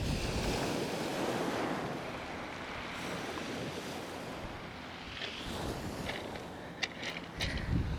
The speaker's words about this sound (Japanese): 海の風景もすっかり変わっちゃって、あっという間に今は夏の海です。もう泳いでる人とかも何人かいますね。